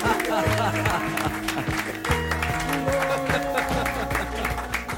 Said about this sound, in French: Mais oui, on applaudit.